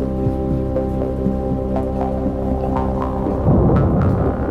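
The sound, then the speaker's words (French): Low, distant thunder rumbles beneath steady heavy rain pouring down over a town, swelling louder near the end as the rolling boom builds. No voices. “Au loin, on entend le bruit inquiétant du tonnerre.”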